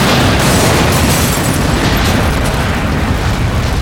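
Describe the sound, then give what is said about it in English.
A loud explosion set off by a lit fuse on a town's Main Street fills the whole clip with a dense, roaring rumble and crackling debris noise of bricks, glass and wood that barely fades over several seconds. No voices are heard. “The explosion created a concussion that blew out every window along Main Street.”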